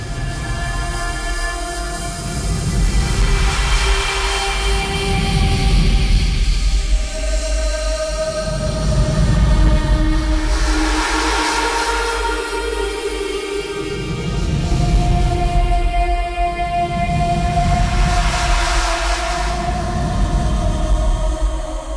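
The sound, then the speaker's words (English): A pop song slowed down 800 times into an ambient drone: sustained, shimmering tones with slowly gliding pitches over deep swells that pulse every few seconds, loud, continuous and wordless. “People are online, are taking pop songs and slowing them down by 800 times to create that.”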